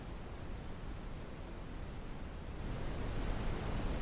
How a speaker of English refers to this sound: Dark noise. We're going to try dark noise next. Selected. Dark noise. Okay. That is the dark noise setting.